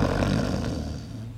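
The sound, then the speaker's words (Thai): Loud, rasping snoring from a woman who has finally fallen asleep in the morning, one long guttural rumble that holds steady and then eases slightly toward the end, with no talking. “เธอนอนบิดไปมาเอาหมอนมาอุดหูตัวเองและหลับไปได้ในที่สุดเสียงกรนระงม”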